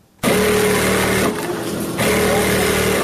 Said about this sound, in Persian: اینجا صنف کلان خیاطی است که دختران دور یک میز کلان با ماشین های برقی خیاطی لباس می دیزند. همه این خیاطان تازه کار دانش آموزان مکتب هستند و از روی ناگزیری به این حرفه روی آوردند.